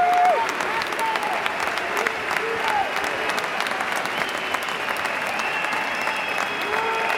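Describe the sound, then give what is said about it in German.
A stadium crowd gives a standing ovation, applauding continuously in a dense, steady wash of clapping, with scattered whistles and cheers rising from the mass of people. “Das war großartig. Standing Ovations.”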